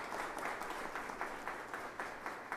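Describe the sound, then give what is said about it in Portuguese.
Steady applause from an audience honouring a longtime partner of the APA, a dense wash of many hands clapping at moderate volume for a few seconds, with no one speaking over it. “Então, antes de que eu continue falando qualquer coisa, eu queria também uma salva de palmas para a”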